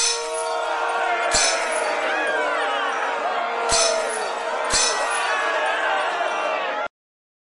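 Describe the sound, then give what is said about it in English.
Gideon's 300 men surround the Midianite camp in the dark: a dense crowd of men shouts over a steady, blaring trumpet tone, while three sharp smashes of breaking jars burst through the din at uneven intervals before it all cuts off abruptly. “When Gideon gave the signal, they blew their trumpets, smashed their jars, and shouted.”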